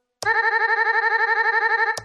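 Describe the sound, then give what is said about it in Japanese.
A looped buzzer sound effect, made by fading a sound and looping it to buzzer length in audio software: a steady electronic tone with stacked harmonics plays for about two seconds, pulsing in a quick regular loop, with clicks where it starts and stops. “あ、ブザーっぽいですけどマリア州が残ってますね。”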